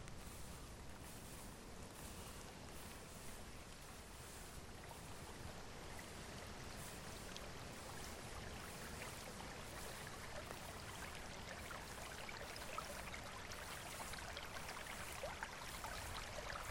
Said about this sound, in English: You follow the path through the trees, listening to the musical babble of the small stream.